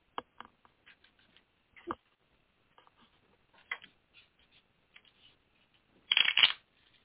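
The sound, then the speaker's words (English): Papery shuffling of a deck of cards: scattered light flicks and taps, then a dense burst of rapid riffling near the end. No one speaks. “So I'm shuffling the cards.”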